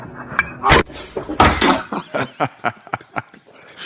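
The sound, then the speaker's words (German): A mobile phone tips over with a sudden loud clatter of knocks and thumps, followed by a quick run of shorter, fading taps and bursts. “Da ist das Handy umgefallen.”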